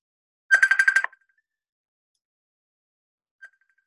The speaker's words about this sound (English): What is that sound? That sounds like the ring from Messenger on Facebook.